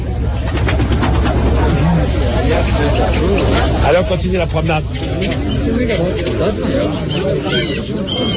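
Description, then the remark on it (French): A crowd of pigeons flutters and coos as people throw handfuls of seeds to them in the bird section of a busy outdoor bazaar in Kabul, Afghanistan, a steady dense rustle of wings and chatter filling the scene while a man speaks over it. “Hop, et ils jettent une poignée de graines à ces pigeons.”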